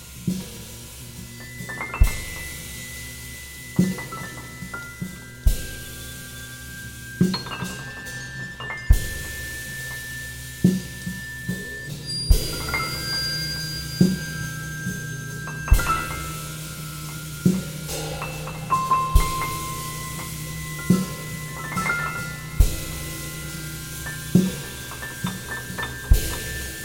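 Bowed bell music: sustained, shimmering metallic tones hang over a low steady drone, punctuated every couple of seconds by bright glassy strikes and clinks. No voices.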